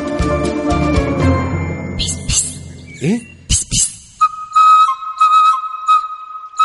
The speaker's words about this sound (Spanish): Oigo un silbido. ¿Quién me llama?